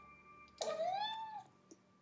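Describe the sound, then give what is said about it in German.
A single high-pitched meow from a hungry cat in the morning as it waits for its breakfast, clear, lasting under a second with a pitch that rises and then slides down, followed by a brief faint click in otherwise quiet surroundings. “Er miaut dann oft mit sehr hoher Stimme.”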